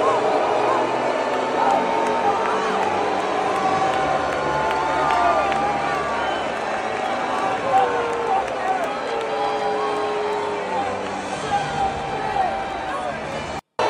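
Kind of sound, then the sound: crowd, crowd booing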